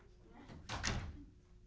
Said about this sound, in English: I think there is a knock. Who's at the door? Someone is late for the party.